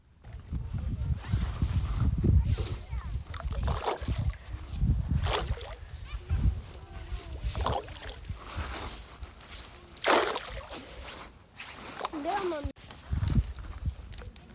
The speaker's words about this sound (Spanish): Escuchamos sonido de viento, sí, hemos tenido días de viento, pero escuchamos también sonido de piedras tiradas al agua.